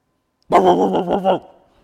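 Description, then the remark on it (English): A person imitates a dog's bark with one loud, drawn-out, growly vocal burst lasting under a second, followed by quiet. “And I can fake barking like a dog.”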